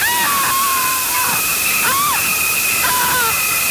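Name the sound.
running shower water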